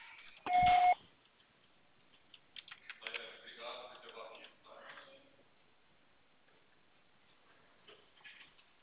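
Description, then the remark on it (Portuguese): A single steady electronic voicemail recording beep, loud and about half a second long, sounds at the start as the signal to leave a message, followed by muffled speech and faint tapping. “O professor será tarifado após o sinal.”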